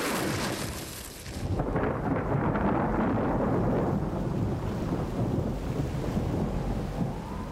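A tropical thunderstorm on an island: a sharp, hissing burst of heavy rain gives way to a deep, continuous rolling rumble of thunder that stays loud, with the downpour still washing underneath, battering a glass-and-concrete hotel.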